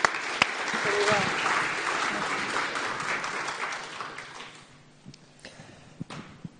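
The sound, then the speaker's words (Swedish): Audience applause for the actors, a dense patter of many hands clapping that starts strong, holds steady, then thins out to a few scattered claps near the end, with a faint voice briefly underneath. “Vi ger de här skådespelarna en riktig applåd.”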